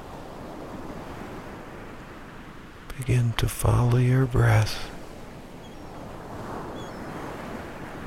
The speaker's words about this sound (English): And so, as you continue to listen to the waves outside